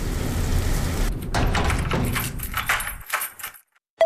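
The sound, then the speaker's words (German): Heavy rain pours down in a dense, steady hiss during an outdoor walk, with sharper clattering splashes mixed in, before it cuts off abruptly near the end and falls almost silent. “der Mental Health Walk war einfach ein kompletter Reinfall wegen dem Wetter.”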